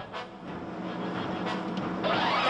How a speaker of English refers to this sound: There's the convoy. The thing we're after will be the most heavily guarded truck.